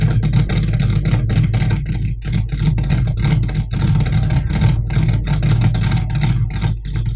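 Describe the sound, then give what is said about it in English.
A funny car drag racing engine starts and roars, loud and raw, revving continuously with quick dips and surges of the throttle throughout, as the car is started from the Funny Car start area at a United Kingdom drag racing competition. No voices are heard over it. “Peter starting his car from the Funny Car start area, and coming down the far road will be his opponent.”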